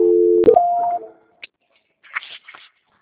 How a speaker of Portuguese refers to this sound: É o que eu falei mesmo, é o asterisco 2, tá? É o asterisco 2. Vou tentar fazer aqui. E aí, digita o número do ramal, hein?